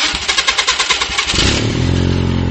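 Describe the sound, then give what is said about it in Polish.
A 1.6 petrol engine from an Astra, fitted to run on LPG, cranks with rapid rhythmic starter pulses for over a second, then catches and settles into a loud, steady running hum, with no talking. “Silnik od Astry, benzyna 1.6 z gazem.”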